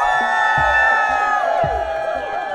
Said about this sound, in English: And we tallied final votes using a tried-and-true method of any democratic voting process, the cheer meter.